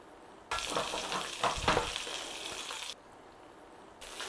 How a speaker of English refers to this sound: So when your water's evaporated and you're down to the oil, just start putting a little bit of browning on those sausages, nice and gently.